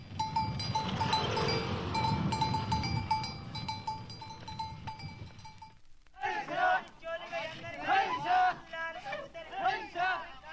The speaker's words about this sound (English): Oh, and across the street a camel goes by pulling a cart.